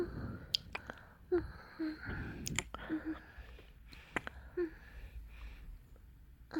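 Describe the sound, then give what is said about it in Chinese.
Soft, wet kissing sounds of a woman kissing someone on the mouth, a series of lip smacks and little clicks arriving irregularly, quiet and intimate with faint breathy noise between them. “姐姐亲你的嘴巴”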